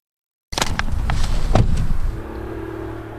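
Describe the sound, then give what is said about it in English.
A broad, roaring rumble of an airplane passing overhead on a flight path, loud at first with a few sharp crackles, then easing into a steadier, lower drone with a faint hum. No one speaks. “Planes overhead. We're in a flight path.”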